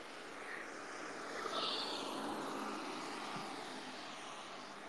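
A car passes by outside, a broad, steady whooshing hum that swells gently in the middle and then holds, with no talking over it.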